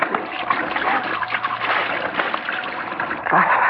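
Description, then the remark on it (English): Water splashes and sloshes in a steady, busy burst as a person splashes running water from a sink onto their face, with a brief louder splash near the end. “I'm going to splash some water on my face.”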